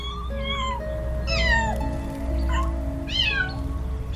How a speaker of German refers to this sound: Und dann siehst und hörst du auch weshalb. Ein schneeweißes Kätzchen sitzt dort oben und miaut ganz kläglich.